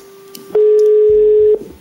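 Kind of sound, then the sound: signal or alarm, telephone busy tone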